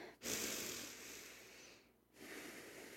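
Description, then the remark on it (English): A long, deep breath drawn in through the nose during a breathing exercise to expand the rib cage, a steady airy rush lasting over a second, then a brief pause and the breathing sound resuming. Fairly quiet, with no talking. “And then you're going to take a deep breath.”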